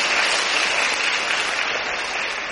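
Steady applause from an audience of students, a dense, even clatter of many hands clapping at once, fairly loud, with no talking over it. A monk asks for the applause to thank them for listening attentively.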